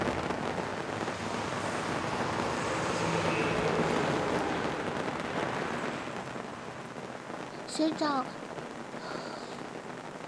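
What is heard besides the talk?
rain falling outside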